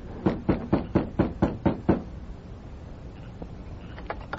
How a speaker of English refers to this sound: After making certain the sheriff was in the house alone, the masked man knocked on the front door.